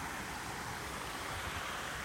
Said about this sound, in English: It's made up of these beautiful little waterfalls that you can hear cascading in the background.